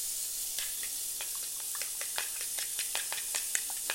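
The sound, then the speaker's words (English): Sausage just starting to sizzle in a frying pan, with the heat turned down a little: a steady, fairly quiet hiss dotted with frequent small crackles and pops throughout, with no voices. “Yeah, it just starts to sizzle a little bit.”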